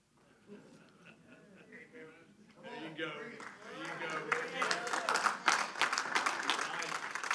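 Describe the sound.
A crowd breaks into applause that swells steadily louder, a dense patter of many hands clapping, with voices talking and calling out underneath and at the start.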